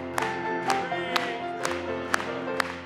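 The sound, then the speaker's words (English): An audience claps together in a steady, even beat, about two claps per second, over a sustained bed of organ-like music and singing. “Let's clap it one more time.”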